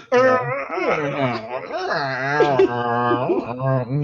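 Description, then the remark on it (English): A drawn-out vocal groan made in a groan-off contest, with wavering, creaky pitch that rises and bends like a rusty door hinge, loud and continuous for about four seconds with no words spoken. “Hey, now you just sound like a really rusty door.”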